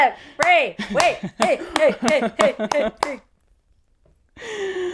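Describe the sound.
About nine sharp hand claps land in a steady, unhurried rhythm, mixed with drawn-out voices whooping or laughing over them. A short pause follows, then someone starts speaking.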